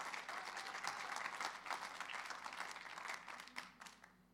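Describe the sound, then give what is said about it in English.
A crowd applauds a woman as she comes forward, with dense, steady clapping that fills the whole span at moderate loudness, then thins and tapers off in the last second with a few scattered claps. “So let's give her a round of applause as she comes.”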